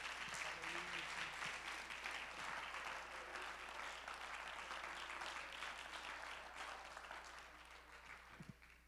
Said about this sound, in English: Why don't we clap our hands and worship the Lord one more time